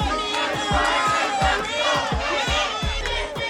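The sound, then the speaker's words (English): A large crowd gathered on a blocked-off street in Boyle Heights, forming a semicircle in front of an art gallery, many voices shouting and chanting together in a dense, continuous roar, with rhythmic low thumps pulsing underneath about twice per second. “I walked up, and I saw this crowd forming a semicircle in front of this art gallery.”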